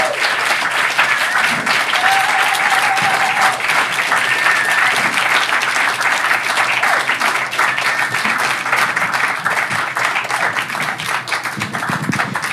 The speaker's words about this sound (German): Ich bin sicher, wir werden von ihr noch viel, viel hören. Applaus für sie.